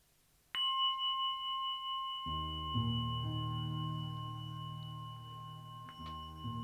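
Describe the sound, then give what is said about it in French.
A single bell is struck to open a practice session and rings on with a long, clear, sustained tone. Soft, low music swells in beneath it, and a faint second strike comes near the end. “Ouais, donc l'idée c'est que tu t'offres un temps pour toi, et c'est un temps qui a un début et une fin, donc là la cloche et le début de la musique, ça permet de sentir cet espace qui s'ouvre, que tu t'offres pour toi-même.”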